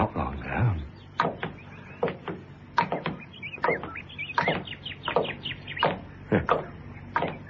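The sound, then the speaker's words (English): Many birds sing and chirp together in a busy, overlapping dawn chorus, with quick bright calls and short trills repeating steadily throughout at moderate volume. “The dawn chorus. The what? Dawn chorus. Birds.”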